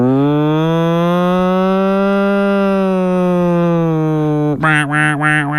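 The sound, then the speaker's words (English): A voice imitates a fire truck siren: a loud, long, steady droning wail held for several seconds, then breaking into a higher, wavering up-and-down tone. “That's not that was like an accurate fire truck description though.”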